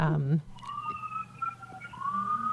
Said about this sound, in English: The siren's going by. I can hear that.